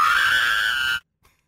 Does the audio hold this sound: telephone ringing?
no